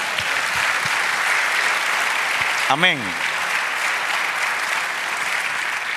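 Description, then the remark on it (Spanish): An audience claps steadily and densely for several seconds, applauding God, a broad wash of applause, while a single voice calls out briefly over it midway. “Dale un aplauso a Dios.”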